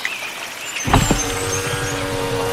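A mountain off-road vehicle's engine turns over and roars to life, then keeps up a steady, throaty low rumble, with a faint hiss of background noise and no voices.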